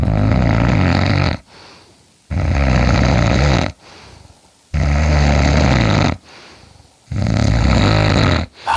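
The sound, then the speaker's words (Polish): Loud snoring, recorded early in the morning with a microphone placed under the sleeper's chin: four long, rasping snores in a steady rhythm, each followed by a brief quieter breath, with no talking. “Najpierw poczęstujemy chrapnięciem.”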